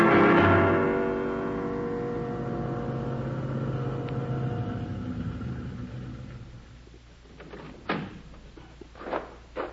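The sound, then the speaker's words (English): The engine of Pebbleman's car, driven in fog, rumbles steadily, slowing and fading out as the vehicle pulls up and stops, followed by a few sharp clunks like doors closing. “Did you manage Pebbleman's car all right?”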